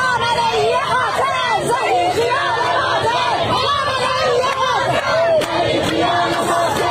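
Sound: protesters chanting slogans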